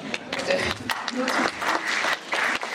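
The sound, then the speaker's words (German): Steady audience applause fills the room, many hands clapping in a dense, continuous patter, with faint voices mixed in beneath it. “Applaus wird toleriert.”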